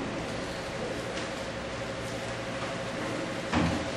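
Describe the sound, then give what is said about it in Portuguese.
A door shuts with a single short thud near the end, over a steady hum of room noise; before that, nothing else stands out. “faz uma gentileza, passa a porta para gerar mais o ambiente.”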